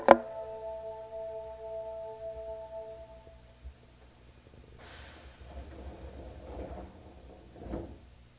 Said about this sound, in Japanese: この電車は喜連瓜破行きです。発車までしばらくお待ちください。 This train is bound for 喜連瓜破。 喜連瓜破行き、まもなく扉が閉まります。ご注意ください。